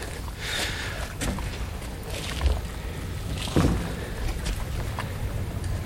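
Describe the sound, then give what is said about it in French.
Steady light outdoor wind rushes across the microphone beside open water, with a constant low rumble and a few soft thumps and knocks, like a small boat moving. No one speaks. “Il y a un peu de vent.”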